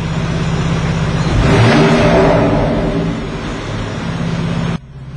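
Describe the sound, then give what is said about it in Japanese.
A car engine in Sport Plus mode, with its exhaust valve open, revs up sharply with a loud, open exhaust roar, swelling to a peak then settling back to a throaty idle before cutting off abruptly. No voices. “じゃあこちらもマフラーを最初開けた状態で吹かしますので聞いてください。”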